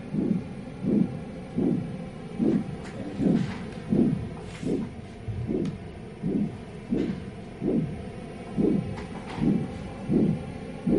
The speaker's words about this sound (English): So just put that on your finger and rest that down on the table. Great. So now we're going to start hearing the sound of your heartbeat. And we're listening to a soundscape that I've designed with Gail Priest.